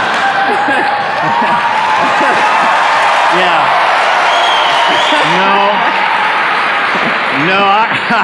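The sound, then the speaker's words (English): A crowd cheers and applauds loudly and steadily throughout, a dense wash of clapping and shouting, with a few voices calling out above the noise and a brief spoken word. “No, I'm not impressed that you're cheering.”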